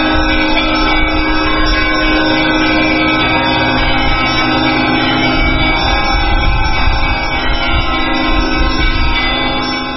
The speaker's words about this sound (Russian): Пасхальные колокольные звоны в эфире «Радио Свобода»